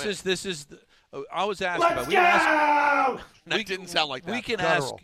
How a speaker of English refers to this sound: I did see his wife, Stacy, did post video of him screaming like Dave Rothenberg.